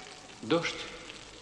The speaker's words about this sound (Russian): Дождь.